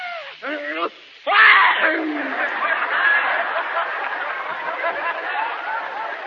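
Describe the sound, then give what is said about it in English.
A person imitates a hefty sneeze: two quick, rising, breathy 'ah' sounds, then one loud explosive burst, followed by sustained crowd chatter and laughter for several seconds. “Now, next, we have what is known as a hefty sneeze, the alternative of a dainty sneeze.”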